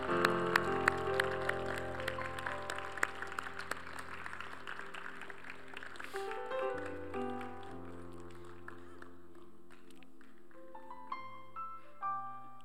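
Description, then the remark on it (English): A church crowd applauds steadily over sustained keyboard or organ chords, the clapping fading after the first half while the music carries on alone with brighter notes near the end. “Come on, let's give him a hand.”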